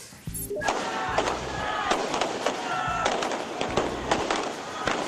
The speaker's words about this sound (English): Firecrackers sounding as Sri Lankans in the capital of Colombo celebrated the end to the nation's 26-year civil war.